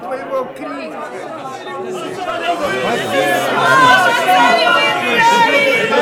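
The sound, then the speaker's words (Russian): Bustling crowd chatter of brisk trading in the temple in Jerusalem, where money was changed and doves sold for sacrifice: many overlapping voices blending into a steady hubbub with no single speaker standing out, swelling slightly louder through the second half. “В храме же шла бойкая торговля. Там меняли деньги и продавали голубей для жертвоприношения.”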